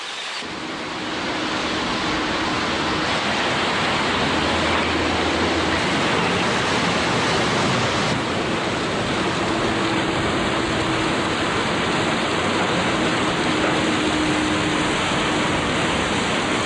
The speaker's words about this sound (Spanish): La zona norte de la isla es la que recoge más lluvia, por lo que tiene gran cantidad de quebradas y torrenteras, que terminan en unos impresionantes saltos como el así bautizado Velo de Novia, por su forma característica.